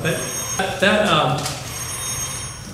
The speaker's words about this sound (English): Yes, you can ring the bell.